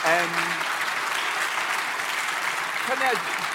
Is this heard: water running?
no